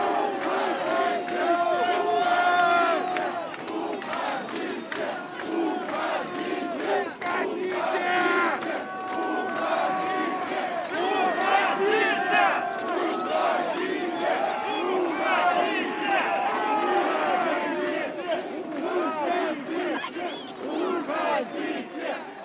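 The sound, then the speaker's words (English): A large crowd chants and shouts in unison at police, many voices roaring the repeated rhythmic cry 'Уходите!' ('Go away!'), staying loud and intense without a break throughout. “It felt like an act of exorcism and was so intense that I thought it lasted about 3 minutes.”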